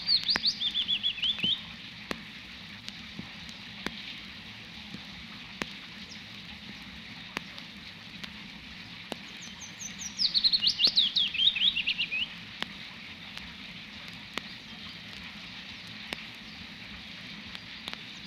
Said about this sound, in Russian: Да это неугомонная пеночка-весничка. Она не боится дождя и, как ни в чем не бывало, тихо поет, будто играет на дудочке.